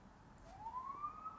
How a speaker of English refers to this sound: Are those sirens because Tej got taken away, or what's going on?